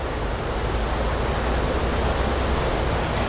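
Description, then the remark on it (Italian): A steady, full roar of the Arno river pouring over the Pescaia di San Nicolò weir, heard from a terrace at Piazza Poggi overlooking the river, continuous with no breaks or voices. “Pescaia di San Nicolò, il nostro percorso comincia qua, su questa terrazza che affaccia sull'Arno.”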